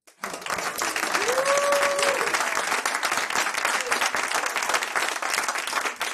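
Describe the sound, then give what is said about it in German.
A live audience, asked by the host to make some noise, bursts into sustained applause, with dense clapping filling the room from start to finish and a few whoops and cheers rising above the noise early on. “Aber nachdem wir ja heute Live-Publikum haben, würde ich sagen, ich will mal was vom Publikum hören.”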